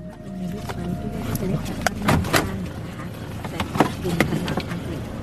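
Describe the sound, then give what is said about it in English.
Sharp clicks and a few thuds ring out as someone gets out of a car beside a road in forested hills where a fire burns next to the road, with door handling and shuffling movement over a low outdoor rumble and faint murmuring voices. “We've just got out the car and because there's a fire next to the road, there's thick white smoke blowing across the road.”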